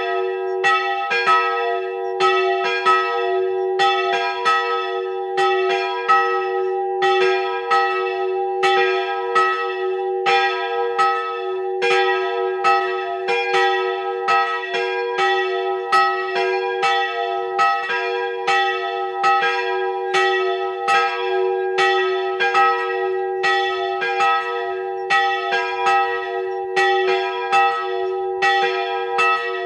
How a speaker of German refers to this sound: Es ist 12 Uhr. Sie hören die Glocken der Wallfahrtskirche Hilkering in Oberösterreich.